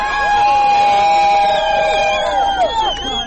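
A crowd at the fourth Montenegro Pride LGBTQ march in Podgorica, Montenegro, on a chilly but dry day, shouts and cheers loudly, many overlapping voices holding high, wavering yells and whoops in a steady roar that lasts throughout, easing slightly at the end.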